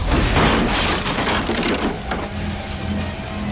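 A door bursts off its hinges with a loud, booming crash of splintering wood, followed by a rough, crackling clatter of debris that fades slightly toward the end.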